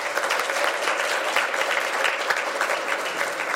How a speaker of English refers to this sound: I think we should give him a quick round of applause.